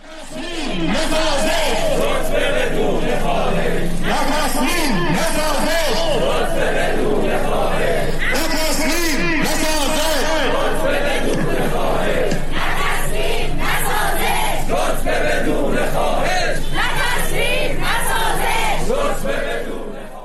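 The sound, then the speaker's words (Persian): A large crowd of protesting teachers at a rally in Iran, demanding implementation of the teacher ranking bill, chanting and shouting together in a sustained, loud roar of overlapping voices, with rhythmic rises and falls as the group calls out throughout. “در این حال در روزهای اخیر تجمع‌های بسیاری از سوی معلمان در شهرهای مختلف ایران با تمرکز بر اجرای لایحه رتبه بندی برگزار شده است، از جمله در تهران.”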